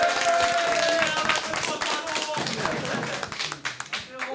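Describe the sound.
A crowd applauds steadily for several seconds, a dense patter of many hands clapping at once, with voices and a few cheers mixed in beneath the clapping.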